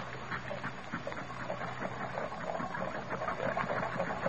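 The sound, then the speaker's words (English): A small homemade model paddle-wheel steamboat, built from poor materials, runs its engine steadily, giving off a fast, continuous chugging clatter with a hissing, mechanical edge, and no voices over it. “I want to get the engine started first.”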